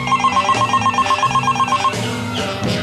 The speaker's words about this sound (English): My phone had been ringing off the hook for what seemed like an hour.